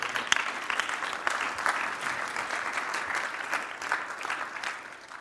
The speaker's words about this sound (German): Merci vielmals, wir geben Gott Applaus für das.